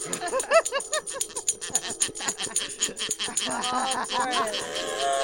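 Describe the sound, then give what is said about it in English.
A quick run of high, yappy dog barks comes loud, followed by shrill squeaky whistling tones and clattering taps toward the end. “Doggy!”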